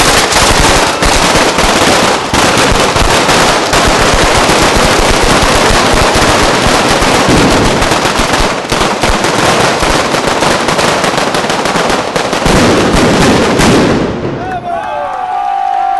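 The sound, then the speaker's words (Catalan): A long, loud string of firecrackers, the final traca of a festival prize ceremony, crackles in rapid, continuous bursts for about fourteen seconds, then cuts off abruptly, leaving a faint crowd murmur and a brief high whistle. “especialment públic jove que no s'ha volgut perdre l'esclat de la traca final.”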